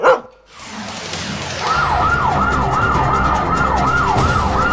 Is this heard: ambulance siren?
yes